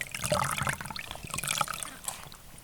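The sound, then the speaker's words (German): Water splashes and sloshes continuously for a few seconds as swimmers set off together, with bursts of churning liquid and small droplet sounds, fairly busy, with no voices. “Sie schwimmen zusammen los”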